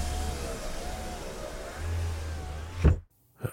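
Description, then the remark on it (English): A car engine idles with a steady low hum and faint whine, then cuts out abruptly with a short clunk, leaving near silence before one brief thump. “The engine stopped.”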